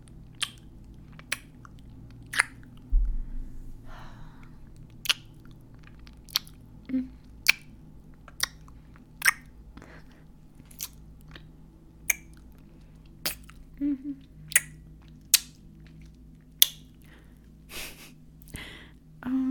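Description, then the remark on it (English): A long run of wet, smacking kisses on the neck, roughly twenty sharp pops at an uneven pace, with soft breathing in the quiet gaps between them. “Are you okay if I leave some neck kisses on you, puppy?”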